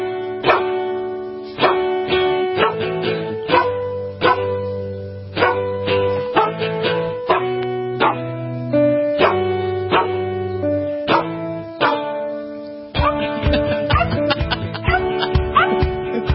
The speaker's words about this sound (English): A group of dogs performing their version of …, originally done by ….